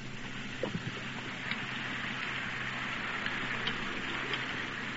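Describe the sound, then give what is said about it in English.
Liquid air poured over an egg sizzles in a skillet set on a cake of ice, freezing the egg, a steady, fairly soft hiss like falling rain, dotted with scattered crackles and small pops, with a low hum underneath and no talking. “Now, the liquid air is being poured right in to the skillet of ice.”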